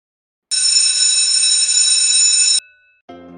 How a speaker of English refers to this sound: Yep, that's our college bell. Need to head back to classes.